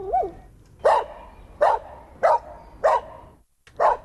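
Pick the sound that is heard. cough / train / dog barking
dog barking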